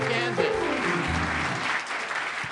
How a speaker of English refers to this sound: Another round of applause, Nebraska. Please. The Nebraska.